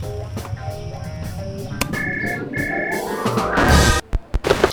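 Birds call, a couple of bright repeated whistles over a busy, rustling background that swells into a noisy burst before a few sharp clicks end it. No one speaks.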